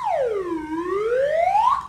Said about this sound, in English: So to help us along the way, we have someone keeping an eye on the clock. When time is up for a particular section, we'll hear this sound, a slide whistle.